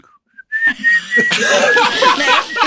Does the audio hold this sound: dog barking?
no